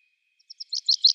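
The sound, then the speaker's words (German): A short burst of common chaffinch song: a rapid run of bright, high chirps that quickly grows louder, heard alone with no other sounds around it. “Buchfink, der hört sich so an.”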